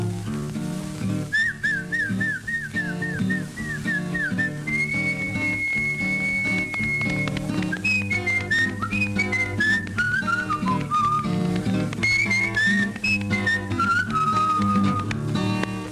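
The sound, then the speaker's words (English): A person whistles a melodic call in a string of rising and falling phrases, clear, over steady, full backing music that plays throughout. “You gotta whistle to her.”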